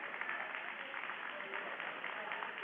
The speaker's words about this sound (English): And she goes off to applause from the King Co. faithful in the stands here today.